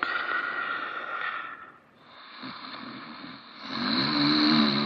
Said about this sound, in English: Loud snoring can be a problem, and not just for other people trying to sleep with the noise. It can also be a sign of sleep apnea.